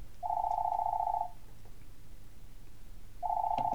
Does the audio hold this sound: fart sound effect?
no